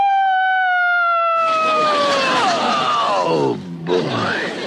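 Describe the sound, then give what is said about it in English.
A loud, sustained noon factory whistle blows a rich steady tone that slowly sags in pitch, soon joined by a harsh roaring blast, then briefly cuts out before swelling back up. “That's the noon whistle.”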